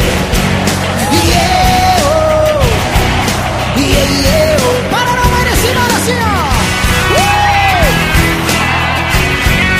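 A large concert crowd roars steadily, with loud overlapping yells and whoops rising and falling in pitch over a dense wall of cheering that never lets up for the whole stretch.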